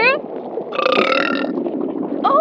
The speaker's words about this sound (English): And honestly, I mostly called you to burp in your ear a little. I know exactly what my little weirdo loves. Ready?